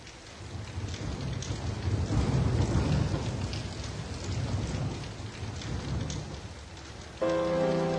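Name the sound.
rain falling with thunder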